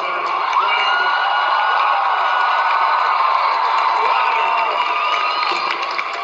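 A large crowd of young people chanting "USA" as their leader arrives, a dense, loud wall of many voices shouting together without pause, sustained throughout with no single speaker standing out.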